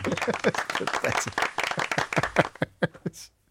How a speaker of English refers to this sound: Round of applause for Ben.